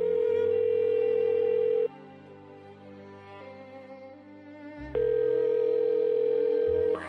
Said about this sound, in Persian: حاجی یک بار دیگه اون رو میخونه، زونکن رو میبنده، بعد میره تجدید وضو میکنه، برمیگرده و با تلفن همراهش زنگ میزنه.